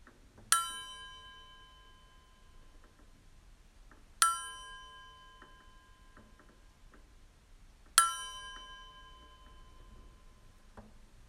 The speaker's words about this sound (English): In a moment, I'll ring our bell 3 times, and then gently and at your own pace, begin to bring your awareness back to this room.